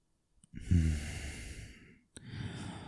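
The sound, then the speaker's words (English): Heavy breathing: a long, loud, breathy exhale lasting over a second, a brief pause, then another deep breath starting. No speech. “You're breathing so heavily, you're fogging up the windows.”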